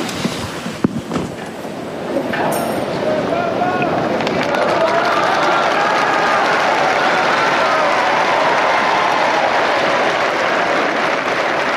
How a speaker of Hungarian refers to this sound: A szokásos taps és üdvözlet szól a mai napon is Ferenc pápának, kifejezve ezáltal ugye az zarándokok az ő hálájukat, az ő köszöntésüket.